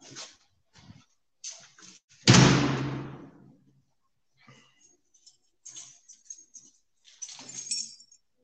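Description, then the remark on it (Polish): Keys jangle in short, scattered bursts of bright metallic clinking, with one louder rattling clatter partway through, then more intermittent jingles as they are handled. No one speaks. “Kurczę, klucze teraz.”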